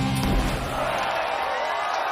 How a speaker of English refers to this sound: A confetti cannon fires sparkling streamers over the crowd.